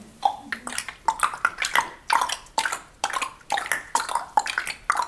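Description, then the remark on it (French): A steady run of hollow tongue clicks, roughly two per second in a loping clip-clop rhythm, imitating a horse's hooves as a voice warm-up exercise to wake up the tongue. The clicks are crisp and fairly loud, with no talking over them. “Mais on entend un cheval.”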